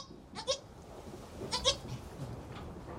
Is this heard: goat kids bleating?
yes